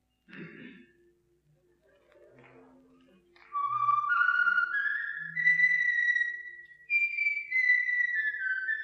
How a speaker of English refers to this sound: He looked up in the sky and began to whistle a tune. It went something like this.